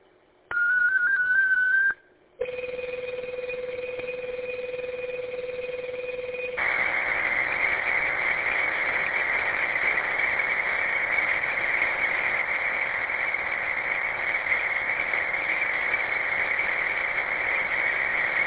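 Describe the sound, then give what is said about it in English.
Digital radio data transmission of a 37-second digital traffic message from station KGTC: a brief warbling tone, a short gap, then a steady two-tone carrier that gives way to a continuous, loud, buzzing burst of modem-like data noise with no voices. “So this message is going to be for 37 seconds. Stand by. This is KGTC. Digital traffic is as follows.”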